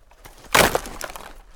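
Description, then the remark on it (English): A wooden chair is smashed apart by someone's foot: one loud, sharp splintering crack, then a few smaller snaps and creaks as the broken pieces settle. “The girl poured water on the fire while Monsieur Jondrette broke the chair with his foot.”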